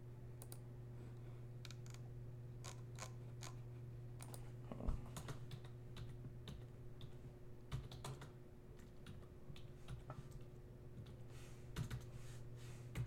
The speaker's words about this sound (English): Second, typing up what I'm looking for.